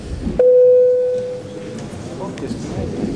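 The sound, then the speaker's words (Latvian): A parliament bell signals a vote on the first reading of amendments to the Electronic Mass Media Law: one steady, loud, mid-pitched tone holds for about a second, then fades, with a low murmur of voices underneath. “Paldies, lūdzu zvanu.”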